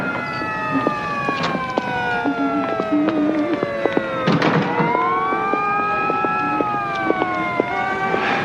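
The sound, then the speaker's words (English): Several sirens wail together, their tones slowly rising and falling and overlapping steadily throughout, fairly loud, with occasional sharp clicks and knocks mixed in. “These sirens are giving me the willies.”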